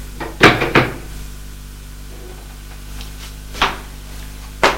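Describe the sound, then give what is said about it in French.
A locked door is tried and rattled: a quick cluster of sharp clunks, then a pause, then two more separate jolts of the handle and latch. “François va faire la sortie. Malheureusement, la porte est fermée à clé.”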